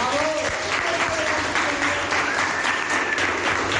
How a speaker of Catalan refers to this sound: que continua doncs amb la seva classe, i des de l'IE Ronda, doncs jo crec, per tota l'audiència de la cadena COPE, jo crec que podríem fer un aplaudiment, no?